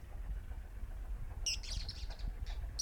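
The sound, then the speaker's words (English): Birdsong breaks out partway through, bright chirps and warbles overlapping from three birds singing at once, set against a steady low outdoor rumble with no talking. “Three birds singing at one time.”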